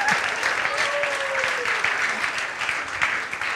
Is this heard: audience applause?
yes